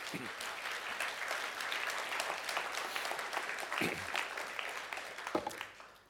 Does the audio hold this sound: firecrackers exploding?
no